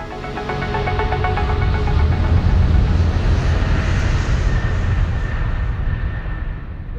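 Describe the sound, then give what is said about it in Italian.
Steady, dense engine drone inside an airplane cabin on a flight returning from Belfast: a deep low-frequency rumble with faint tonal whine above it, continuous and even, with no talking. “John DeLorean è su un aereo di ritorno da Belfast”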